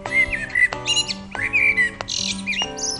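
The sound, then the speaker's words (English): A blackbird sings in short, fluting whistled phrases with sharper chirps between them, clear, over a steady humming background with no voices. “Blackbirds are frequent visitors to Irish gardens, where they can be seen both hopping on lawns in search of worms and feeding on berries high in trees and bushes.”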